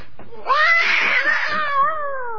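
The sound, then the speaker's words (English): A cat on a lawn lets out a loud, drawn-out screech, a harsh wavering yowl that rises sharply, holds for over a second, then trails off. It carries on its own. “That bloody cat.”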